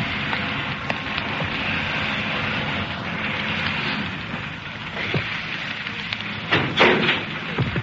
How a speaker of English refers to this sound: Now the ramp will start to go down like a small steel moat bridge. She goes down fast because the boat is a sitting target in this position. There, they're about to bring the ramp down now. Perhaps you can hear it.